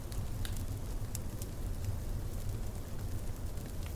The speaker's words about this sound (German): Hier wartet schon dein Lagerfeuer auf dich.